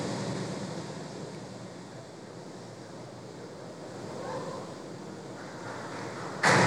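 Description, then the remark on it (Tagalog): Steady rushing wind and ocean surf, then a sudden loud burst of spray near the end as the SpaceX Dragon capsule Endeavour carrying NASA astronauts splashes down in the ocean off Florida, the first splashdown of American astronauts in 45 years. “As you can see on your screen, we have visual confirmation for splashdown.”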